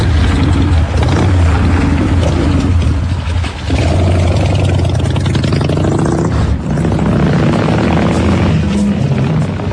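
A police car's engine rumbles loudly, a steady low drone with shifting mechanical noise running throughout, with no siren and no voices.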